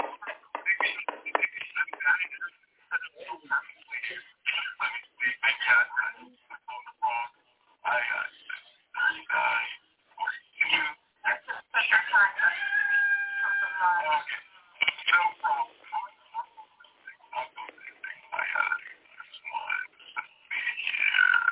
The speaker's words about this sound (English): You all excuse that rooster.